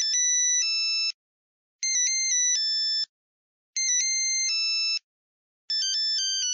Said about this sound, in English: And these were basic monophonic ringtones, simple bleeps and bloops, like this.